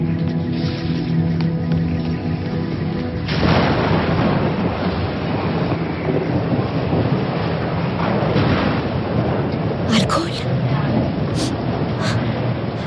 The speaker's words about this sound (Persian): طوفان داره بدتر میشه.